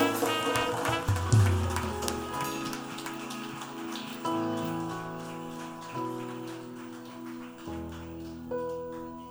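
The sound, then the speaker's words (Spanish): A crowd claps steadily for the first few seconds over sustained keyboard chords that shift every couple of seconds; the clapping thins out as the music carries on. “Le damos otro aplauso bien grande.”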